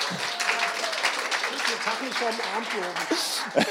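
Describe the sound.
A crowd claps in a dense, steady patter of applause for a few seconds, with voices murmuring and chattering underneath.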